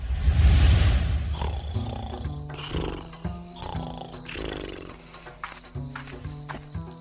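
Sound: lion roaring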